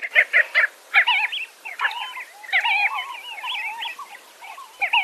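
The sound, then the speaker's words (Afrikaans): Namaqua sandgrouse calling: a quick series of sharp, repeated notes opens, followed by a steady run of liquid, gurgling calls that rise and fall, clear, with no voices. “Hierdie oukie, as hy sy roep klink of hy sê kelkie wyn en dit is hoe hy klink.”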